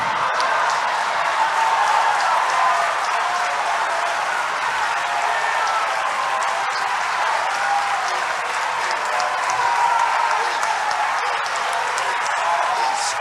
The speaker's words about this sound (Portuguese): Se o que estava faltando para Deus atender o meu pedido era eu celebrar o que ele está fazendo na sua vida, então nesta noite vai destravar o que eu estou pedindo, porque eu celebro Deus na sua vida e vou aplaudir você. Vai.